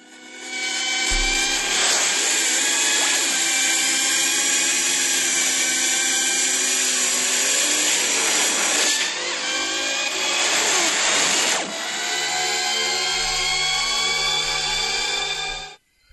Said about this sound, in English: I mean, with the hint, I guessed that it was the motorbikes, the light bikes from Tron. Tron? That's right, the 1980s Tron.